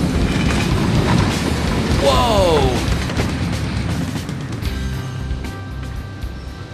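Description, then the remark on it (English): A heavy, grinding roar of a car shredder tearing apart a car in Los Angeles, with a sharp screeching squeal of bending steel partway through and a startled voice exclaiming over the din, fading to a lower rumble. “There, you just shredded your first car.”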